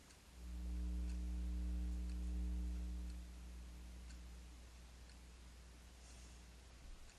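A clock ticks faintly and steadily in the background, partly masked at first by a loud, low buzzing tone that stops after about three seconds, leaving the soft ticks over a quiet hum.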